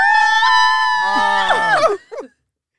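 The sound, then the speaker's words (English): Several voices shout a long, loud "woo" together, holding it for about two seconds before breaking off with a brief trailing whoop, energetic. “Woo! I just need to let that out.”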